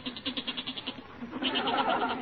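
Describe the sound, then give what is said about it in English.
A restless goat in the cellar of a house bleats in a quavering, tremulous voice: one wavering bleat, then a louder, longer one right after, slightly muffled, with no talking. “No, that's not my father. That's the goat. He's getting restless down in the cellar.”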